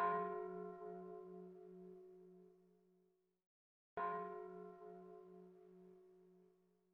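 Two slow strikes of a church bell, each ringing out and fading with a long humming decay, with a short silence between them; the tone sounds soft and somewhat distant.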